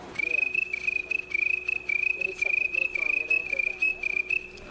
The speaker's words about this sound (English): But I like to remember those nice times on the front porch, and just casual conversation just drifts away to silence, and then the sounds of the night take over. There's crickets of all kinds.